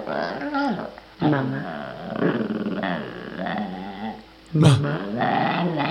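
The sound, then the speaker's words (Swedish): A small terrier growls and snarls continuously, rising into louder grumbling bursts with brief pauses, a rough, throaty sound filling the whole stretch. “Vilken jävla hund. En liten jäkla terrier eller vad det är.”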